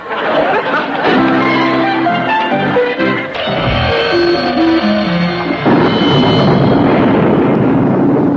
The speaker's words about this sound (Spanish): Abuela, nunca había habido una tormenta así en Roma.